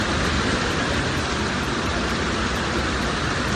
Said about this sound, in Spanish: La lluvia intensa ha llegado ya a Barcelona. Muchas calles del centro empiezan a acumular agua, lo que está complicando la circulación.